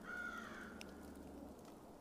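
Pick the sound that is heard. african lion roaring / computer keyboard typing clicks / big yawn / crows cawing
crows cawing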